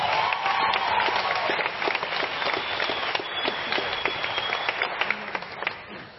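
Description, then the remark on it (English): A crowd at a charity event applauds the Cliff Central team steadily, many hands clapping in a dense, continuous wash that stays fairly loud throughout, with a few sharper individual claps standing out near the end. “And I think it's an incredible cause, and I think the Cliff Central team need another big round of applause.”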